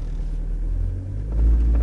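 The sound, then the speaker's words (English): A car engine rumbles low and steady, then swells louder as the vehicle accelerates, the deep roar building toward the end with no voices present. “So let's accelerate again”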